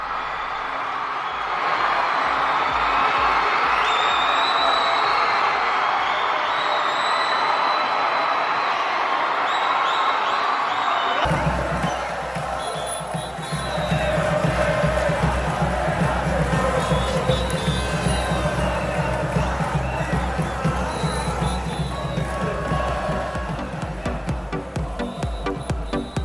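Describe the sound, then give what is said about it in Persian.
A large crowd of Moroccan football fans in Morocco roars and chants in celebration after their national team's 2022 World Cup quarter-final victory, loud and continuous throughout, with an abrupt cut midway into steady rhythmic thumping beneath the cheering. “بله، تشویق مراکشی ها را بعد از پیروزی تیم ملی فوتبالشان میشنیدیم از این کشور.”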